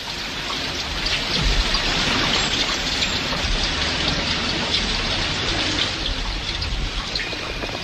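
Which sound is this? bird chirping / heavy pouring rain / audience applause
heavy pouring rain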